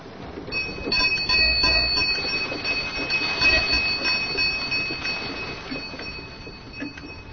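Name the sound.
bell ringing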